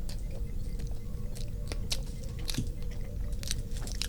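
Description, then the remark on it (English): Wet, crunchy chewing and biting of food that tastes like Taco Bell burritos, with French fries in it. The sounds repeat irregularly for several seconds, with sharp clicks and squishes over a steady low background hum, and no talking. “What are we eating here? What does it taste like?”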